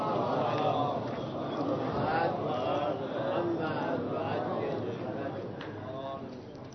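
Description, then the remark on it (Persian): An audience at a religious lecture recites a salawat blessing together in unison, a steady murmuring chant of many overlapping voices lasting several seconds, moderately loud and slightly fading at the end. “یه صلواتی بفرستیم.”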